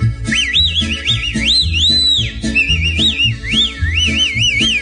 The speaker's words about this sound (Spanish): De ese modo, desde donde espere, cuando vea que pasa, yo te llamaré. Te echaré un chiflidito al que te tengo acostumbrada, muy discreto, así mi vida, óigalo.